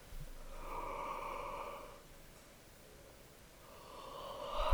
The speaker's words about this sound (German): Und ein drittes Mal gähnen, dehnen.